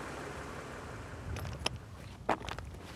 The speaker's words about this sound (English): My footsteps were loud as I walked through what I thought was a desolate land with but a few rocks scattered about.